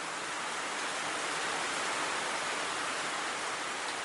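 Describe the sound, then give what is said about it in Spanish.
Steady, dense rain pours down in an unbroken wash of hiss, evenly loud for the whole stretch with no voices or other sounds on top. “¡Ay, qué sabroso es cuando llueve!”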